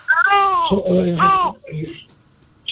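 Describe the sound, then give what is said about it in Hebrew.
A baby cries in the background of a phone call to a radio show, in two loud, wavering wails over about a second and a half, then trails off into softer, brief fussing sounds, with no one talking. “ברגע זה אין, אבל יש, היה נשמע איזשהו בכי של תינוק כמו שנשמע עכשיו.”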